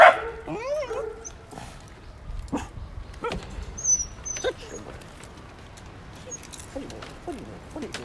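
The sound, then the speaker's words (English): A lady's dog lets out a burst of high, yelping barks at the start, followed by scattered short, sharp sounds and a few softer yips over a rustling background. “It's just a lady with her dog!”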